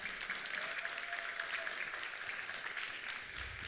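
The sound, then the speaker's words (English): A crowd at a worship service claps steadily for people's effort, a dense wash of many overlapping hand claps holding at an even, moderate loudness for several seconds without any voices. “You guys, can you guys give them a round of applause for their effort?”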